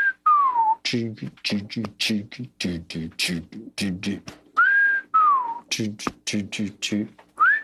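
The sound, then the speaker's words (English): A person whistles a sliding, falling tune like a wolf whistle, broken up by quick rhythmic vocal syllables, then repeats the swooping whistle, voicing the melody of a song demo. “Like a wolf whistle kind of thing.”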